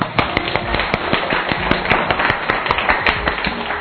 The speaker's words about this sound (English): Very good. I should clap for you.